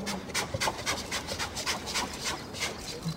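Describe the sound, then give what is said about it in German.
Tonja, a polar bear mother in Berlin, giving her typical contact call to her cub to get it to follow her outside: a quick series of breathy, huffing chuffs in a steady, panting rhythm, moderately loud, with no voices. “Die haben so einen ganz typischen Kontaktlaut.”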